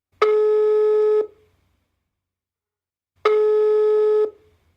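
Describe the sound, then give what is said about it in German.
A telephone ringing tone as a call is placed to a person in Himmelstadt: two steady, buzzy electronic tones, each about a second long and roughly three seconds apart, loud with silence in between and no voices. “mit einem Anruf bei einer Person, die Ähnliches macht.”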